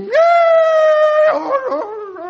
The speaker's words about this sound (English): Of course, in the valleys, the coyotes are going. They're pretty bad, yes, too.